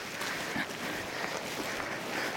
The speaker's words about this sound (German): Es regnet natürlich. Man hört den Regen auch im Podcast und man hört manchmal auch das Rascheln der Regenkleidung.